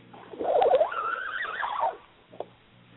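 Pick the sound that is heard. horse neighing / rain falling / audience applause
horse neighing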